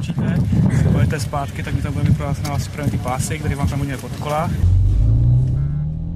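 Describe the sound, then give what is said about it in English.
The engine of a white Škoda Octavia, driven by the interior minister on a stretch of road near an airport at Panenský Týnec and pursued by a police car during a test, rumbles low beneath people talking, then carries on alone near the end, its steady drone climbing slightly in pitch as the car picks up speed. “Behind the wheel of a white Škoda Octavia, the minister is then pursued by a police car.”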